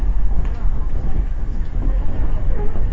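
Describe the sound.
Steady, heavy rumble of a train arriving at its terminus, track 7 of Omiya Station in Japan, a dense low roar that stays loud and even throughout, with faint, indistinct voices buried in the noise.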